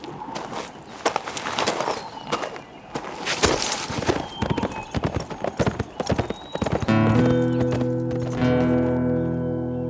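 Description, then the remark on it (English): Horse hooves clip-clop in an uneven, steady rhythm as a rider rides out, sharp knocks on hard ground, before a sustained tonal sound swells in over the last few seconds. “After watching Andy ride out to where the Ranger's extra horses were loose-herded on the grass”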